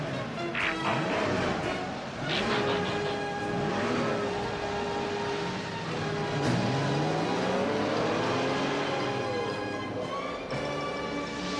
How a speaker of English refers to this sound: Autobots, start your engines! Ready, Prime. Let's roll.